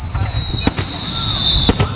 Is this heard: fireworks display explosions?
yes